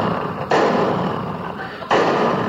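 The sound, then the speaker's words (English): Two heavy knocks on a hotel room door, spaced well apart, loud, each leaving a dull, lingering boom. “You keep knocking on that fucking door.”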